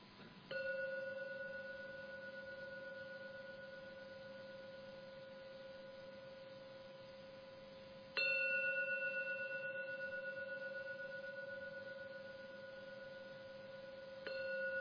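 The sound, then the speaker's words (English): A gong is struck three times to close a meditation, several seconds apart, each stroke a loud, rich metallic tone with steady overtones that rings out and slowly fades; the third stroke comes at the very end. “So I'm now going to ring the gong 3 times as usual.”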